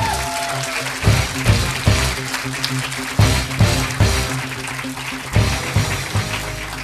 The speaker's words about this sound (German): Die nächste Person startet für Bless the Mic. Das ist eine Veranstaltung in München. Und bitte macht auch für sie einen 10-Punkte-Applaus.